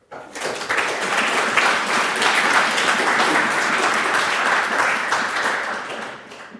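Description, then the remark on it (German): Spontaneous audience applause after a talk breaks out and holds steady for several seconds, a dense wash of many hands clapping at once, fairly loud, before tapering off at the end. “Ich glaube, also mein erster, wo es heute spontan Applaus gab, also da gab es die letzten zwei Tage auch nicht zwischendurch, das kannst du dir definitiv auf die Fahnen schreiben.”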